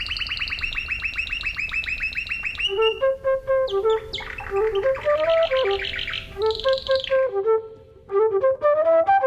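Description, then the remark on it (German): A canary sings loudly with no talking, opening with a fast rapid-fire trill, then breaking into varied chirps, whistles and warbled phrases, ending on another quick trill. “Sein 1695 erschienenes Hauptwerk mit dem Titel Ornithophonia enthält 9 lange Gedichte, in denen Bär den Gesang verschiedener Vögel beschreibt und poetisch würdigt. Zum Beispiel den des Kanarienvogels.”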